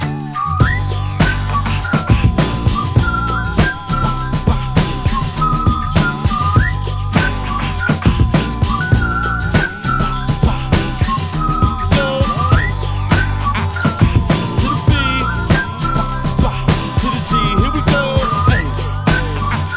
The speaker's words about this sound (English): As I walk down the street, whistling this, looking for a place